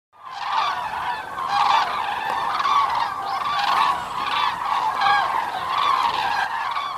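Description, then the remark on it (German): A large flock of common cranes on their migration south calls continuously overhead, a dense chorus of loud, rolling trumpeting notes overlapping throughout with no pauses and no speech. “Es sind Kraniche auf ihrem Zug in den Süden.”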